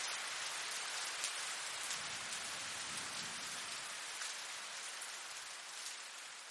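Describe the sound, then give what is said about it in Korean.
Steady rain falls at night very close, to within about 60 cm of a person's face in bed, a dense continuous hiss with scattered brighter drop impacts pattering on a nearby surface, with no voices. “그렇게 가까운 빗소리를 듣고 있자면 그대로 잠들어 있을 수 없다.”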